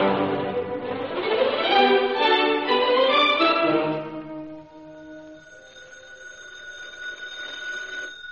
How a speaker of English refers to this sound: Britt Reed, well-known playboy and publisher of the Daily Sentinel, gradually awakened to the insistent ringing of the phone beside his bed. He yawned, turned on the light, and noticed it was after 3 a.m.